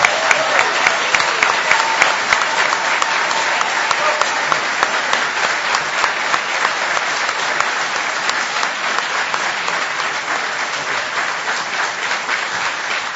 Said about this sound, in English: And now that you've applauded, I'm going to ask you to do something difficult and refrain from applause until the end of the debate.